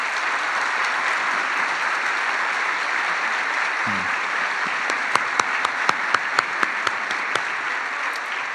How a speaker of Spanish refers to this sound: ¿Por qué no les damos un amoroso aplauso a estas personas?